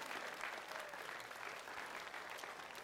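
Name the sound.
round of applause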